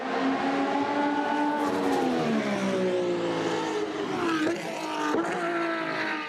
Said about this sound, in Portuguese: Na verdade, mesmo o ronco dos motores, que é apaixonante para os fãs de automobilismo, deve ser dosado no começo da carreira de um piloto. Muitas crianças podem se assustar com o barulho antes de sequer entrar no kart.